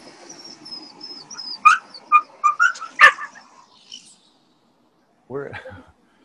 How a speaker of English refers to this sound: There's a dog that needs to be muted. Yeah, who's the dog? Who's got the dog off the mute? Is that me? Are you guys hearing me? Yes. We're hearing a dog.